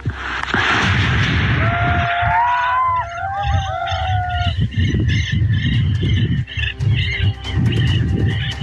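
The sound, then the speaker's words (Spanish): Loud, irregular bangs of gunshots burst through a dense, rumbling outdoor din during an armored police operation in the rain, with high whistling tones rising and falling in the background; no one speaks. “Hubo mucho vehículo blindado, pero sí hubo disparos. Escuchemos parte de ese ambiente que precisamente las propias comunidades han difundido.”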